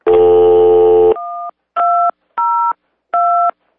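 A loud, buzzy tone gives way to four short, clear telephone keypad beeps, each a steady two-note tone, spaced evenly about half a second apart, with no voices.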